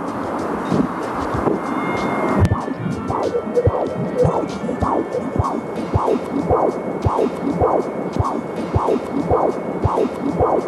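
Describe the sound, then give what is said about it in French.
A fetal heartbeat picked up by a fetal Doppler placed against the pregnant belly and heard through headphones: fast, steady whooshing pulses, roughly two per second, loud over a constant staticky hiss, with no talking. “Une fois placé au bon endroit, vous entendrez les battements de cœur de votre enfant.”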